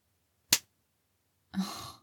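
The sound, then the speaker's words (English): One sharp slap to the face rings out, followed about a second later by a breathy, sighing exhale. No talking. “Quit being a pussy and slap me like you mean it.”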